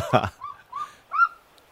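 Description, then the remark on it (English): A golden eagle gives three short, thin, high-pitched calls in quick succession, fairly faint, after a brief muffled thump at the start. “On one time, I even heard the call, that screech or whatever you call it. Of the golden eagle.”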